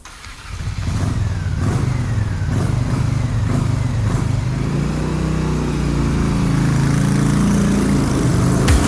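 An engine turns over and catches, then revs up into a steady, loud rumbling idle with rising pitch, with no one talking.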